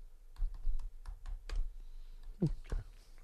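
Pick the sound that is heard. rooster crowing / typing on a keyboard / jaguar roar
typing on a keyboard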